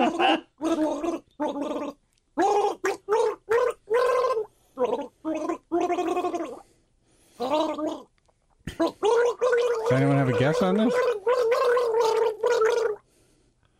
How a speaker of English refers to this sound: I just like hearing her gargle.